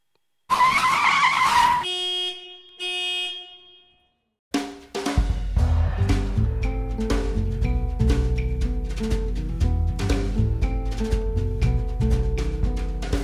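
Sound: car brakes skidding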